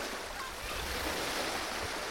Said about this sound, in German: Für ein Bad im Meer, wo man die Farbe Blau nicht nur fühlen, sondern schmecken, riechen und sogar hören kann, weil es schwappt und gluckst und strudelt.